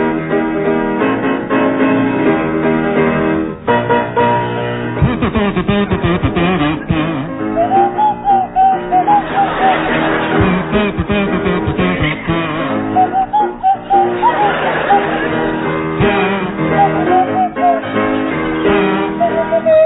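A buzzy kazoo plays a bouncy tune alongside a swanee whistle sliding up and down in pitch, with steady backing music filling the whole stretch and no talking.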